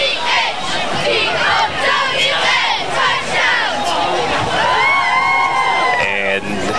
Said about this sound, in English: They are doing a cheer, though, for the touchdown.